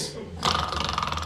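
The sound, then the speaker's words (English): A voice makes a short, raspy snoring imitation: a breathy onset, then a rough, buzzing rattle that pulses quickly for about a second, moderately loud. “Snoring and swinging.”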